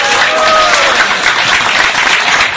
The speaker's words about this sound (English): Would you like that? Хотели бы вы? Big round of applause. Поаплодируем.